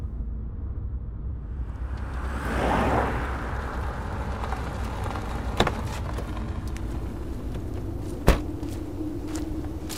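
A steady low engine rumble of a bus driving, with a brief rising whoosh early on and two sharp clicks or knocks later. No voices.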